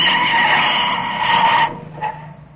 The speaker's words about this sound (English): A mile down the road, the cutoff drawbridge swings open with exasperating slowness. They pull up with a burning screech of brakes.